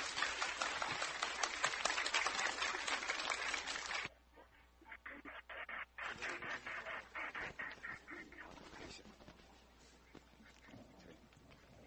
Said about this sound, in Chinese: 然后我们以热烈的掌声来，我们欢迎我们黄副校长来开始我们今天的讲座。